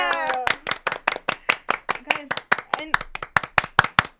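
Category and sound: human body sound, hands clapping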